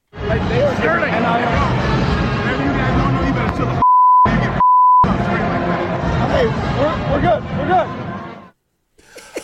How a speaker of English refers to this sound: I couldn't even hear what he said. So I guess that's why. He said bleep, bleep, bleep, bleep. Yeah, bleep.